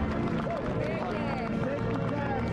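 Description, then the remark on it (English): A large crowd at the Capitol cheers loudly and steadily for Joe Biden as he exits the Capitol and walks down the steps on a 30-degree day, with shouts and whoops rising above a dense roar of voices and scattered clapping throughout. “Leaning back as he exited the Capitol and was greeted by such a rousing cheer from the crowd.”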